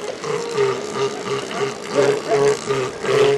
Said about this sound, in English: Now that's not flatulence and belching. That's lovemaking. These elephant seals have migrated all the way from the Gulf of Alaska. They come to this spot every winter to breed and to fight off other elephant seals.